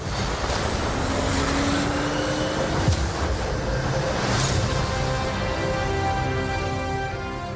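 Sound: fighter jet flying overhead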